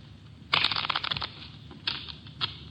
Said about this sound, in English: Here's a new deck. Shuffle them, Mitch.